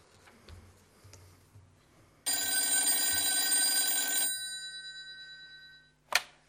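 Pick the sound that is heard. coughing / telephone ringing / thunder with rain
telephone ringing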